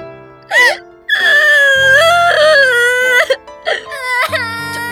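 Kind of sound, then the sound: human body sound, person crying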